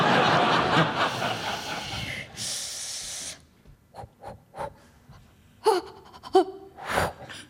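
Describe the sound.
A voice imitates plunging into cold water for cold water swimming, acted out as a guessing-game mime: a long, loud rush of hissing breath, then several quick sharp gasps and whimpering intakes, some high-pitched and voiced, with short pauses between them.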